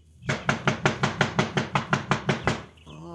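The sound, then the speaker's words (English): About a dozen steady, evenly spaced knuckle knocks on a very heavy front door, each a solid, resonant thud. A voice starts speaking just as the knocking stops. “Pancho, not have to knock again. That a very heavy door. It hurt Pancho's knuckles to knock, Cisco.”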